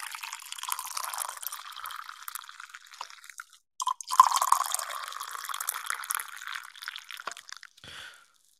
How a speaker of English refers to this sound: please feel free to pour yourself a cup of a beverage. Doesn't have to be coffee, but it's my beverage of choice, coffee. So here you go. Let me pour some for you.